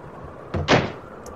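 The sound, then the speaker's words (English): A door, a tight fit, is shoved open with a short knock, then a rough, scraping push lasting under half a second. It stands out against quiet room noise, with no talking. “Okay, I'm heading through this door. It's a tight fit.”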